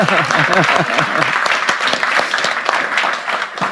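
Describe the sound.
Sustained audience applause, a dense wash of many hands clapping at a steady loud level, with some voices and cheering mixed in at the start.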